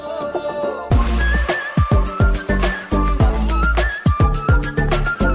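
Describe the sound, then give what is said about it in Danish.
A high, breathy flute melody weaves over Ukraine's winning ethno-pop song of the previous year, with deep, booming kick drums thumping in a steady rhythm; a quiet, buzzy intro gives way abruptly to the full loud beat. “Og yeah, det er jo blandt andet på grund af den her fløjte.”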